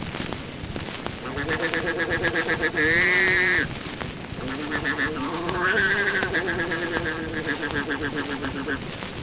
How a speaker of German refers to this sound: Ein Ziegenbock.